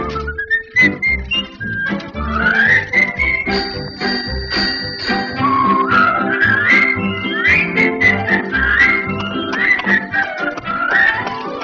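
A person whistles a bouncy melody over a lively instrumental backing, the clear whistled notes gliding and repeating in short phrases, fairly loud.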